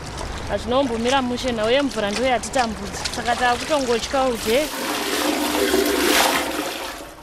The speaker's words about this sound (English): is draining water from her tub into a bucket to flush her toilet.